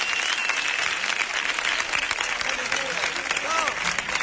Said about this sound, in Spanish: ¡Un aplauso para los abanderados, por favor!